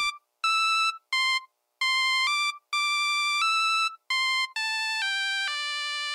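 A Nokia cell phone ringtone plays a bright, beeping synth melody, a run of clipped notes and held tones stepping up and down in pitch, loud with no talking.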